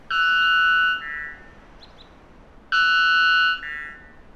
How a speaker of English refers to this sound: We've had to attenuate the sound of the bird because of the dynamic range limitations of radio, but try to imagine just how much louder this would have been